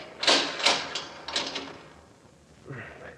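household object, door being opened

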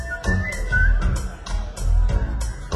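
human body sound, human whistling

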